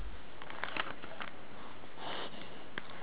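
A sneeze: a few soft, breathy nasal sniffs scattered across a quiet stretch, then a sudden loud burst right at the end. No one speaks.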